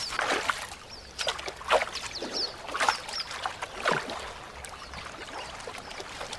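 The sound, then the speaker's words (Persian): Water rushes steadily in a stream that blocks a group's path and that they must all cross, broken by irregular splashes and sloshing bursts at moderate loudness, with no voices present. “این نهر مسیر آنها را مسدود کرده است.”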